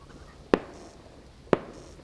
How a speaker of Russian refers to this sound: После 10 часов вечера выпь разбудили какие-то непонятные выстрелы.